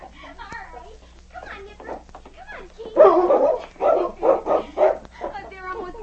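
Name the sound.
dogs barking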